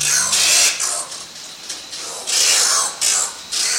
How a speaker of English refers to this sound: These are the freakish snarls of the oil bird, which spends its whole life in the dark. These birds live in caves in Trinidad and South America and fly out at night to search for food. The oil bird is adapted to this lifestyle.